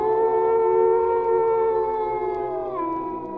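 A long, drawn-out howl holds a steady, wavering pitch for several seconds before dipping slightly near the end. It is loud, with no voices.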